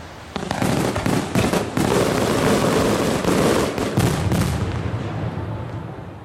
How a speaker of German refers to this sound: Und wenn jetzt der 1. August nicht stattfinden würde, glaube ich, dass die Schweizer einen anderen Tag finden würden, wo sie ihr Feuerwerk loslassen könnten.